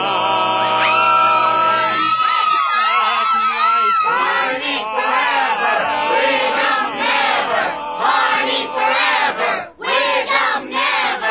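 A crowd of girls screams loudly and continuously, high-pitched shrieks piling on top of each other in a frenzied, sustained wall of sound with brief surges throughout.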